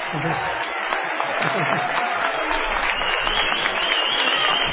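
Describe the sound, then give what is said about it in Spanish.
A crowd applauds historian Felipe Piña, a visitor in the audience, steadily for about five seconds, a dense, even patter of many hands clapping with a few voices mixed in. “A aplaudir a Felipe.”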